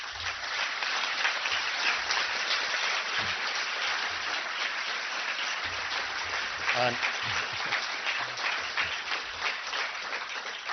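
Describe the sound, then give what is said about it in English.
Sustained audience applause at the IAMS conference in Berlin for the conference's founder, a dense steady wash of many hands clapping at an even, loud level for about ten seconds, with a brief low voice or two faintly underneath. “And the next applause should earn the founder of the IAMS conference.”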